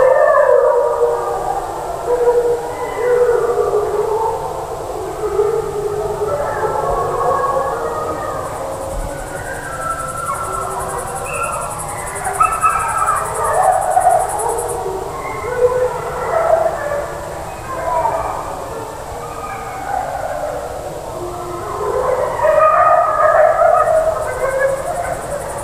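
A chorus of wolves, a whole family group, howling together, long overlapping wavering howls rising and falling continuously for the whole stretch, fairly loud and full, with no one speaking.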